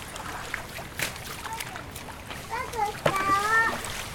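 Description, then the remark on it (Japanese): Splashing water with scattered wet slaps and scrubbing noises as children scrub with deck brushes. Their voices chatter and call out over it, growing busier toward the end. “さあこれでゴシゴシ。”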